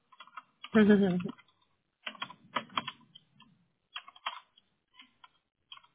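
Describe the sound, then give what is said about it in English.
Quick bursts of typing on a computer keyboard, clustered taps spread across several seconds, fairly clear, with a brief low voice-like sound near the start. “And I'm actually going to walk you through the clicks and the typing because I have to read it to you anyway.”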